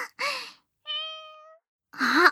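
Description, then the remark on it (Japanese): A voice imitates a cat with two clear meows, one at the start and one at the end, separated by a short, steady held tone; the speaker is wearing cat ears and pretending to be a cat. “猫耳をつけて私が猫ちゃんになるの。”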